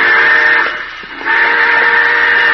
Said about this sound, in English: Hey, the train!